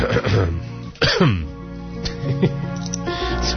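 A few harsh coughs and throat-clearing bursts from a host during a Radio Nacka broadcast, spaced unevenly over a few seconds, with a steady tonal background hum running underneath.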